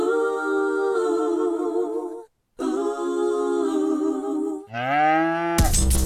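A cow moos loudly three times in quick succession, the long sustained lows followed by a rising, higher-pitched bellow, with no one talking.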